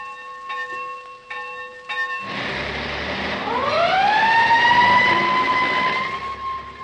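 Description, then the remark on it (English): A school bell rings in a few quick bursts, then a fire engine roars up with a loud siren that winds upward and holds a steady, wailing tone over rumbling engine noise. “Why, those are the sounds of a school bell and fire engine, aren't they?”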